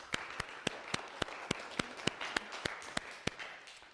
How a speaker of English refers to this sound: Please can we give them a huge thank you clap.